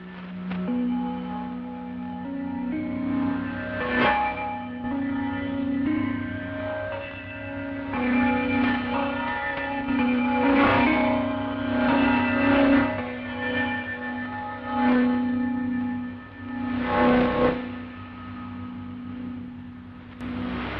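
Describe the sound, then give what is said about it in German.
A sustained, ringing chime melody of gongs and glockenspiel sounds over a steady drone, with repeated struck notes blooming into long, resonant decays; the station identification signal that opens broadcasts of the Thai government's shortwave radio service from Bangkok. “Die Sendungen beginnen mit einem charakteristischen Sendezeichen aus Gongs und Glockenspiel als Stationskennung.”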